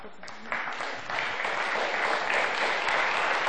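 An audience claps steadily, the applause swelling after the first half second into a dense, sustained patter of many hands that holds at an even, fairly loud level, applauding a person who has become a believer and accepted Jesus.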